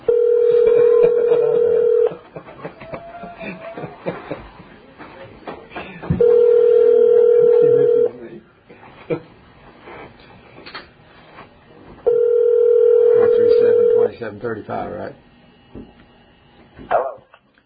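An outgoing phone call to a person travelling through Arkansas rings through: three steady, low-pitched ringback tones, each about two seconds long and spaced evenly, with scattered clatter and occasional barking-like noises in between.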